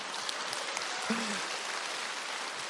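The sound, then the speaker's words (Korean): An audience claps steadily in a dense, even patter of many hands that fills the whole stretch at a fairly constant level, with a brief voiced sound surfacing midway. “아, 해결됐다. 박수.”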